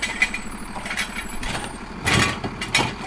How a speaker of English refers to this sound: A garbage truck picks up her trash can, dumps the contents inside, and hauls it to a solid waste transfer station across town.